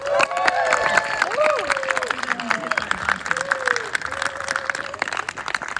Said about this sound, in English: Let's give the Lieutenant Governor a round of applause for her coming here.